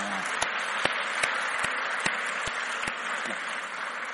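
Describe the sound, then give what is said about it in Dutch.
A large group applauds steadily for about four seconds in praise of the Lord after Psalm 150, a dense wash of clapping with a few sharper individual claps popping out, and no voices over it. “Nou, eens weer een applaus voor de Heer geven.”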